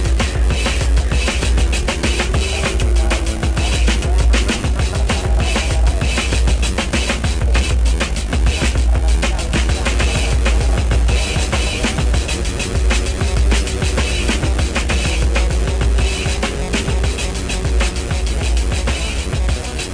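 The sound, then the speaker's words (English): A loud, steady low humming drone seems to come from inside an object and runs unbroken from start to finish. It is rough and noisy in texture, with a faint wavering tone riding on top. No one speaks. “A curious humming sound that seems to come from inside the object.”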